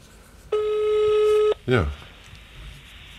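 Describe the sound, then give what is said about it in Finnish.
A phone call ringing out over an iPhone on speakerphone: one steady, buzzy ringback tone lasting about a second, then a short voice sound and quiet background hiss. “No nyt se soi.”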